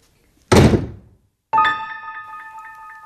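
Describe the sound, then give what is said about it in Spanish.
A door shuts with one solid thud that quickly dies away, then a sustained, gently pulsing metallic ring follows. No one speaks. “Quédese, no se moleste en abrir la puerta.”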